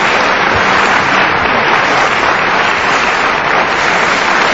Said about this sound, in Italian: ci sono anche gli applausi per gli uomini, per le donne prima non c'era, ma vabbè.